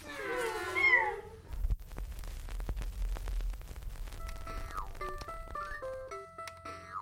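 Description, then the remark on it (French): A short burst of high-pitched kitten mewing, a few quick overlapping cries, followed by rustling and clattering noise and some faint tonal beeps toward the end. “Et aussi des chatons.”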